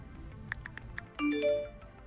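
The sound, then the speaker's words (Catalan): Four quick, evenly spaced tapping clicks of typing on a mobile phone give way to a bright electronic phone notification chime, a short rising run of sustained tones that rings out clearly with nothing else around it. “Així que aquest soroll... de tecleig, notificacions i vibracions desapareixerà completament dels centres educatius.”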